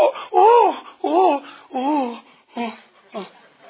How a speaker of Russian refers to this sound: Че ты так плачешь? Это же ерунда.